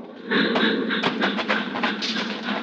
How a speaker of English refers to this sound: The train rolls by, slowing, and the crossing bell warns that death is here.